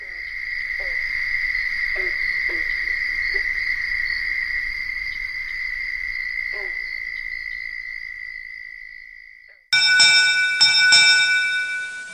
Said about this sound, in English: We close with one more round of the southern toad with the thunk sounds of green frogs in the background.